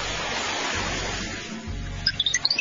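Water rushes and hisses steadily for a couple of seconds, fairly loud, then eases slightly as a few short, high chirping tones pop up near the end; the water is coming in toward a sand house being built.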